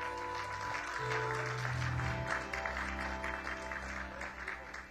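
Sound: audience hand clapping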